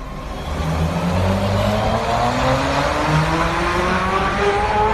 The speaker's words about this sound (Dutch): Een vrachtwagenchauffeur trapt dus goed op het gaspedaal van zijn Tesla Semi. Of het stroompedaal, moet ik zeggen, want het is eindelijk aan het gebeuren.